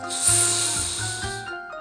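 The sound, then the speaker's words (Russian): A voice makes a long, steady hissing "sssss" sound, the Russian speech sound "s" being practised for correct pronunciation. It is bright and fairly loud, held for well over a second before fading out, with a faint tonal hum underneath. “Сегодня мы с тобой будем учиться правильно произносить звук «с».”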